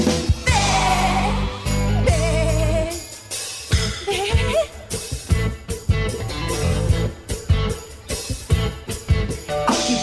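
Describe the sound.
Several children's voices imitate sheep, letting out wavering bleats in quick succession over a busy, loud musical backing, with the bleats rising and falling throughout.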